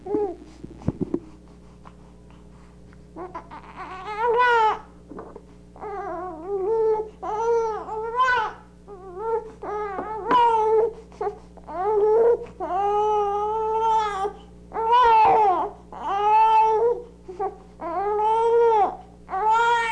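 A run of high, wavering crying and howling calls comes in repeated drawn-out bursts, fairly loud, with short breaths between them and no talking.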